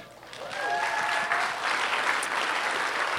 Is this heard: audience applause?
yes